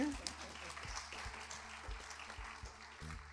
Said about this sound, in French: On peut l'applaudir, hein, c'est...